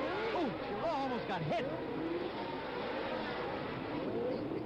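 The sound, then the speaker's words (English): A pack of race car engines roars steadily at the start of a race, the cars streaming through Sandoval Turn and up the hill, with Jackie Stewart leading in his Tyrrell Ford; their pitch sweeps up and down as they accelerate, with a voice talking over the dense, continuous noise. “But here are the race cars streaming through Sandoval Turn and up the hill for the first time, and Jackie Stewart already has the lead.”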